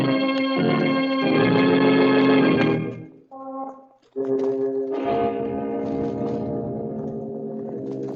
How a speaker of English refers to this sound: With us again when death whispers softly in the night and the clocks strike 12 for murder at midnight.